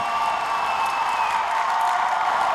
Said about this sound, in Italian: Senti tutto lo stadio. Fa un solo grido. Giustizia!